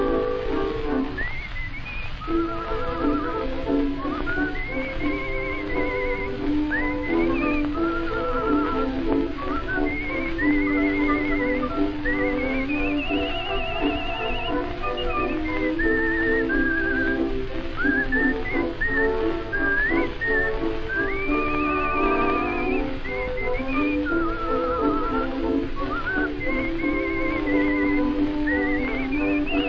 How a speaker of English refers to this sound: When you hear a song that you think will be a hit, don't worry the words a bit, just whistle it a bit.